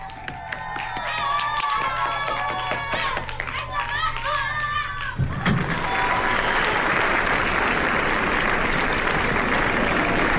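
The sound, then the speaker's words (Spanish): Children's excited chatter and cheers fill the first half, then a dense, steady burst of applause takes over and continues loudly to the end. “¡Qué aplauso tan bonito para el ratoncito!”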